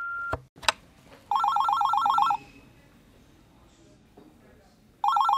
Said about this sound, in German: Hinterlass nach dem Piepton eine Nachricht.